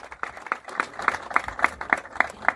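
Applause in a steady, even rhythm, with about nine sharp claps in quick succession at a moderate volume, and no voices over them.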